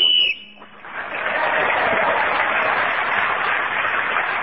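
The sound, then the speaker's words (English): A short, shrill whistle blast rings out at the start, ending a timed turn in a panel game before an audience at the City Varieties, then the audience breaks into loud, sustained applause that fills the rest of the moment. “In this game, whoever is speaking when the whistle goes gains an extra point.”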